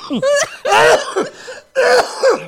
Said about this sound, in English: You hear somebody coughing? I'm coughing because from that damn text, probably the text got me coughing and shit.